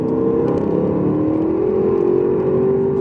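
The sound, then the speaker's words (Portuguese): A car weighing over 2,100 kg accelerates on a straight road. Its exhaust valve roars loudly and steadily, the deep drone climbing gradually in pitch over a few seconds, continuous with no voices. “Você escuta, né, a válvula do escape bem forte aqui.”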